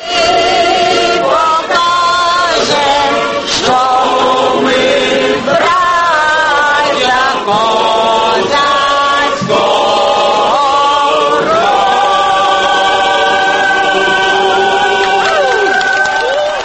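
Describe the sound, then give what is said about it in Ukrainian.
The crowd filling a square sings the national anthem of Ukraine together with the Vatican orchestra, the slow, solemn melodic lines steady and loud throughout, with voices and instruments blending into one full sound. “Уся площа, яка зібралася, співала гімн України в супроводі Ватиканського оркестру.”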